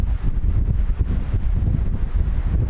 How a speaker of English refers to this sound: Wow. It's super windy yeah. here right now. Oh, it's so nice out though. Gotta hang on to my hat.